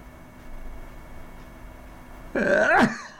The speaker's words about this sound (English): Excuse me, I had to sneeze.